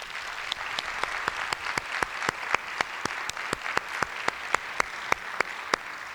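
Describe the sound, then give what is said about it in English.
An audience applauds their event director steadily for several seconds, a dense bed of clapping with one sharp, regular clap cutting through at a quick, even beat. No one speaks. “Let's have a round of applause for our director”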